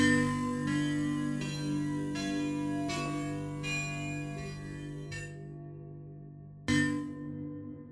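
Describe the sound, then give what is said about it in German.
A tunnel-explosion impulse response from an effect's Transform section, not a simple reverb, on a tonal, bell-like chord. Struck roughly every second, it swells into a dense, booming low-end wash, cuts out briefly, then returns with one final hit. “Und das ist eine Impulsantwort, aber nicht wieder ein simpler Hall, sondern wir haben hier Tunnel-Explosion.”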